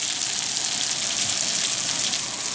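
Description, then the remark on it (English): Steady sizzling of pasta frying in oil in a nonstick pan, a dense crackling hiss that holds evenly throughout with no talking. “I wonder if I transfer this to a nonstick pan with oil if it might crisp.”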